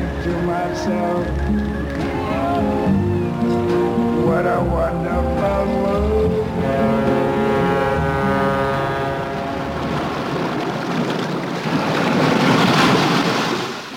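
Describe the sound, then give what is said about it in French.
Steady surf of waves washing onto a beach on the coast of Saint Lucia in the Caribbean, a broad rushing roar that swells loudest near the end, with voices and tonal sounds layered over the water for most of it. “Les vagues échouent sur une plage de la côte de Santa Lucia aux Caraïbes.”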